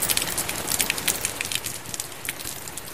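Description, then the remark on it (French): Steady rain falls on Hargeisa, Somaliland, in a dense, hissing patter, with countless small drops crackling and tapping irregularly throughout. No voices, just an even, continuous wash of rainfall. “Il pleut sur Hargeisa.”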